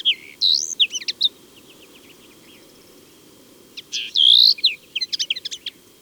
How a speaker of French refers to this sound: Voici une linotte mélodieuse. Elle chante bien en vue, perchée au sommet d'un buisson.